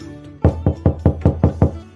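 Six firm knocks on a door in a steady, even rhythm, fairly loud, with no voices during the knocking.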